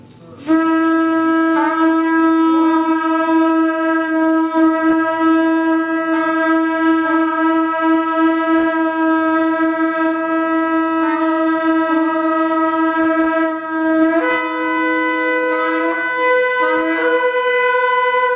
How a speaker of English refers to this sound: So let's play the recording of the shofar.